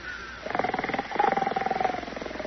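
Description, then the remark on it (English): A person imitates a snore with a loud, rattling, buzzing drone that pulses rapidly over a steady hum, sustained for about two seconds. “Try for an organ tone. An organ tone. I shall open my diapason. No, no. I want a snore, not a dive bomber.”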